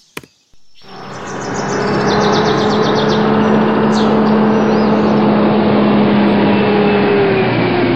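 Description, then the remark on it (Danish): A video game truck's heavy engine rumbles in after a short pause, swelling louder over a couple of seconds and then holding a steady drone with a low humming tone, faint chirps above at first, as it arrives to collect ten felled trees. “Så for at hente en lastbil, så trykker man C.”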